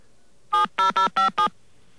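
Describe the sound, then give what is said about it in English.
Five short touch-tone keypad beeps in quick, fairly even succession as a phone number is entered at a voicemail system's prompt, clear with nothing else around them. “All right, I'm going to pull the same stunt and enter their phone number.”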